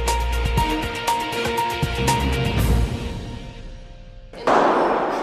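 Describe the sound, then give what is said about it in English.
A rapid string of sharp, loud gunshots on Parliament Hill on October 22nd, when Michael Zahaf-Bibeau began opening fire, cracks and echoes for a couple of seconds, fades into reverberation, then a sudden burst of broad rushing noise cuts in. “There's a bunch of gunshots.”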